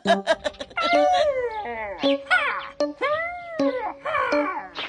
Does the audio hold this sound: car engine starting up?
no